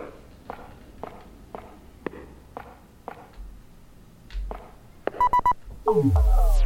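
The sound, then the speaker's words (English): Evenly paced footsteps of a character in the video game Pitch Black: A Detective's Demise, walked by holding the up arrow key, tap along in a steady rhythm, around nine in a row, followed by a quick burst of electronic beeps and a loud, sweeping tone dropping low at the end. “Ah, okay, so it looks like I have to walk around.”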